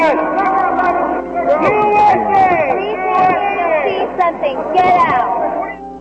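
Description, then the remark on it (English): A crowd at the University of Florida in Gainesville shouts and chants together, "We came here to see some USA," interrupting former New York City Mayor Rudy Giuliani's speech; many overlapping voices rise and fall in loud, continuous bursts that drown out any single speaker for about six seconds. “But in the first 5 minutes of his speech, there was a little interruption from the crowd.”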